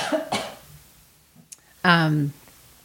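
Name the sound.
cough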